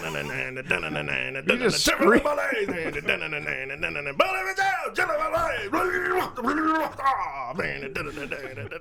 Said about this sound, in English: All right. I mean, you were just kind of screaming it. Is that like? That's metal.